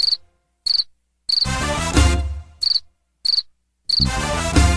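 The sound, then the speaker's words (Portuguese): A cricket chirps in short, shrill bursts that repeat at steady intervals, alternating with loud, bass-heavy musical passages; no one speaks. “E de vez em quando ele dá um gritinho.”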